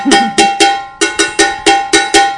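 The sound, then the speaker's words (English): An old metal can struck repeatedly, loud: a quick run of three clanging hits, a short pause, then four more in steady rhythm, each ringing briefly before the next. “And after the banning of the drum, we went on to the old cans.”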